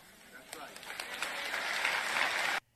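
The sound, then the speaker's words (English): Audience applause starts with a few scattered claps, swells into steadier clapping from a crowd, then cuts off abruptly after a couple of seconds. “He was expecting more applause on that one.”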